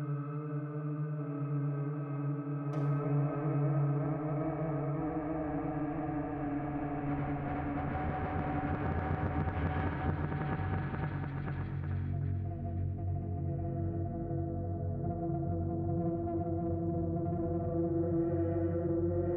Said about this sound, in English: Use like a low pass filter here. Throw some cross modulation on the filter. This adds a little bit of like fuzz and distortion to the audio.